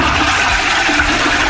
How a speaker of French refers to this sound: Ouais mais écoutez, vraiment, dans les toilettes. Et là, ce que t'entends, c'est une chasse d'eau.